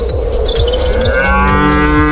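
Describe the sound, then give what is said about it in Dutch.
Loud, drawn-out cow moos overlap continuously, several animals lowing together in deep, droning tones that swell and waver in pitch, with no talking throughout. Thirteen cows stuck in a water pit, heard in the evening. “want het gaat over koeien.”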